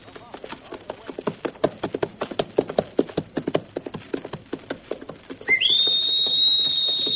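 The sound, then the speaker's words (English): A shrill whistle swoops upward and holds a steady high note near the end, following several seconds of rhythmic clip-clopping hoofbeats. “The Hawk's whistle signals another exciting episode in the story of Hawk Larrabee, starring Elliot Lewis”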